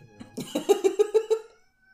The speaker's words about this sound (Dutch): Heel moeilijk om te praten over een film als er een kat aan het flippen is.